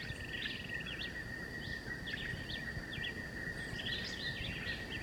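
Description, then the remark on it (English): Bird song from a black-whiskered vireo (John Chewitt), about 30 meters away, and a woodpecker: repeated short, high chirping phrases over a steady insect drone and a low rumbling background, no talking. “So both John Chewitt and the woodpecker singing.”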